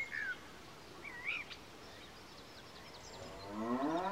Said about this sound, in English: Is it a cow? Yes, it is.